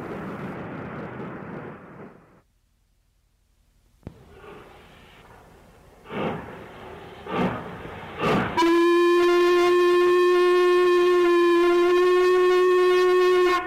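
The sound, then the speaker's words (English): Steam locomotive Black 5460 number 44669, hauling a 9-van Carlisle to Perth parcels train at night, rumbles and clanks past into a station, then a brief lull and a few sharp hissing bursts, before the driver sounds a loud, steady, high-pitched whistle for the signal to clear, continuously to the end. “Black 5460 number 44669 comes clanking past into the station.”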